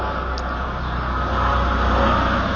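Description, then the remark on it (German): A helicopter drones overhead, a loud, steady rumble with deep engine tones and a broad wash of noise that swells slightly toward the end. No one speaks. “Wenn exakt hier ein Hubschrauber natürlich fliegen muss, wenn ich ein Audio mache.”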